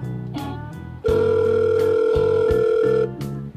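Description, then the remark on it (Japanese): A loud, steady electronic telephone tone of a call sounds once for about two seconds, clear, over a low droning musical background that continues before and after it. “ごめんなさい、すぐかけ直します。”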